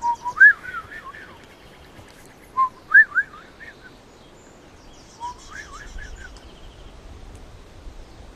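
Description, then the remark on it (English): A person whistles an imitation of a Swainson's thrush song: three separate rising, spiraling phrases with short pauses between them, clear, with no talking. “He was a Swanson's thrush. The Swanson's thrush went...”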